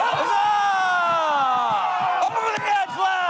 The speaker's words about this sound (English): Protesting a British tax on tea to shouts of no taxation without representation.